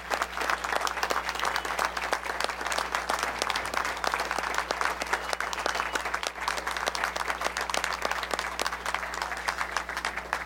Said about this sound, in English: So will you give her another round of applause just in thanks for being here.